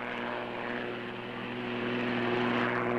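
A military propeller plane's engine drones steadily and loudly throughout, a continuous humming roar with a low tonal buzz that swells slightly toward the end, with no voices present, as the pilot closes in on a motorboat moving away from the shore.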